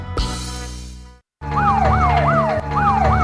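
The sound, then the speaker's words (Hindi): A loud police car siren wails in quick rising and falling sweeps, about four cycles, following a brief burst of rumbling noise and a short moment of silence. “लाल बत्तियां वाला सारे तो ताड़ी गड्डी मगर घूम गया, हुण की करोगे?”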